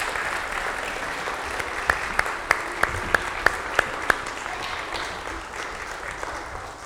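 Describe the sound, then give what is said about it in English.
A round of applause for a man during a morning church service fills the whole stretch, dense steady clapping from a crowd, with a few sharp, louder claps standing out in an even rhythm partway through. “Give him one more round of applause here this morning.”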